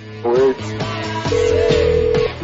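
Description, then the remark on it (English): Telephone keypad tones heard over a phone line as a phone card is dialed to call Hooters of Anaheim: a few short tonal beeps followed by one long steady tone, fairly loud against a faint background hum. “We gotta change phone cards.”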